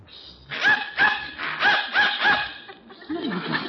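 A dog barks in response to a dog whistle, in a quick run of five or six sharp yaps, pauses briefly, then lets out a last rougher bark-like sound.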